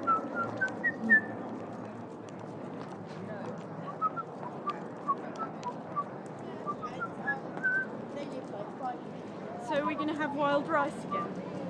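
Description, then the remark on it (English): Birds make laughing calls, scattered whistly chirps at first, then a louder burst of rapid, stacked cackling toward the end, all over a steady murmur of background chatter. “What, as listening to all those lovely birds? Yep. Making those laughing noises, laughing at you.”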